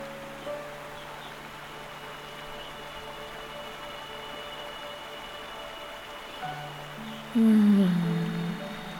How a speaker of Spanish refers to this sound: Escucha el agua que te relaja y te deja.